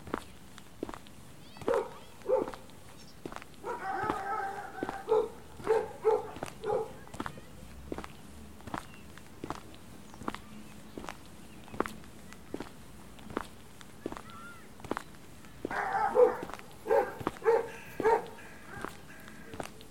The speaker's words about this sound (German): Nicht erschrecken, wenn gleich ein paar Hunde angerannt kommen. Wir sind hier auf der Hundewiese.